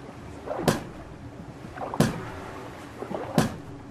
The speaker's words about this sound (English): The other sound that he loves to make is he claps his flippers together.